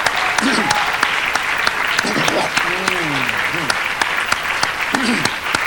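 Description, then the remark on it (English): A large crowd claps steadily and densely for several seconds, applauding the Lord during a sermon, with scattered voices calling and cheering over the applause. “Let's give the Lord applause.”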